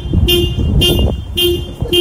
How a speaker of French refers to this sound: Enfin, écoutez ce klaxon.